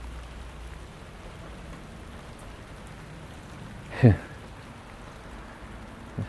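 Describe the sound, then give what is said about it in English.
Steady heavy cold rain pours straight down in the morning with no wind, in an even, unbroken hiss with no gusting, broken only by one brief, louder low thump about two-thirds of the way through. “It's pissing down the rain again.”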